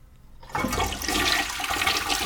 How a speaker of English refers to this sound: Mom! Are you flushing your chemo? Mom, this is your medicine.